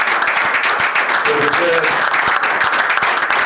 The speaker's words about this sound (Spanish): Primero, quiero pedirles un aplauso grande para todos y cada uno de los compañeros y compañeras de Abanco.